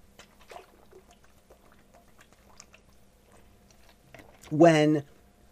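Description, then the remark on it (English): Quiet handling clicks and taps, then about half a second of water poured loudly into a glass, its gurgling tone rising quickly as the glass fills. “Hold on a second. I need a little bit of water here.”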